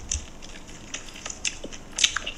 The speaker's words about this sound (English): People love the sounds of people eating. Why? I don't know. It's weird stuff people are into. But it's such a huge category of YouTube.